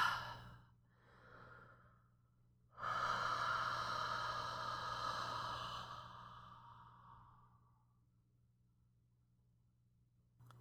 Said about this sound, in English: The built-up energy is hereby directed into the candle, breathed into it, breathing life into it, as it were.